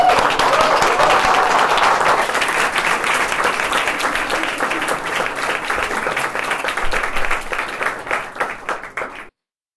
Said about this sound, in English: So let's give him applause, I guess, a round of applause.